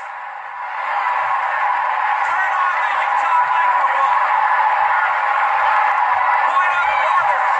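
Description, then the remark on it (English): A large crowd of delegates on a convention floor roars and shouts objections continuously, a dense wall of many overlapping voices that swells within the first second and stays loud and unbroken throughout. “I'm guessing there was objection to that, Ian, based on what was going on the floor.”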